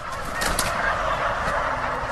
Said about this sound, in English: You're listening to Sound of John's Turkey Farm in Northfield, Minnesota. P&J Products raises about 200,000 turkeys a year. That's about 3 to 4 million pounds of turkey.